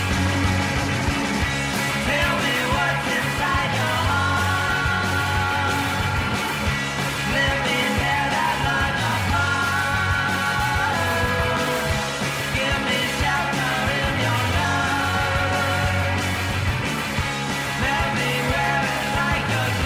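A loud, dense rock song by a young Bay Area rock musician plays throughout, with a steady driving drum beat, thick guitars and sustained melodic lines, and no talking over it.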